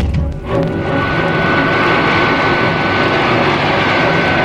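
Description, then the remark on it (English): The engine of Wonder Woman's invisible, solar-powered robot plane roars loudly and steadily as it climbs into the stratosphere, a dense continuous rush with a faint whining tone on top, swelling slightly after a brief dip at the start. No voices. “As the magnificent solar-powered vehicle begins a dizzying climb into the stratosphere”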